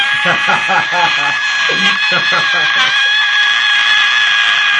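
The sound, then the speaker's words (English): A person vocally imitates a scream, holding a loud, piercing, high-pitched tone steadily for several seconds while another voice talks faintly underneath. “That's a pretty cool sound effect that you just made.”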